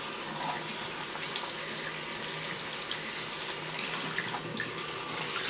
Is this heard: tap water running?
yes